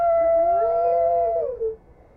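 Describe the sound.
A voice imitates an alarm clock with one long, loud, steady sung tone that wavers slightly, then slides downward and cuts off, with nothing else audible.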